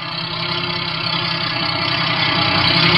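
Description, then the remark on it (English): A tape truck's engine rumbles steadily and grows gradually louder as it approaches, a low, continuous drone with no voices over it. “When the truck gets close enough, I'll put the searchlight in the driver's face like before.”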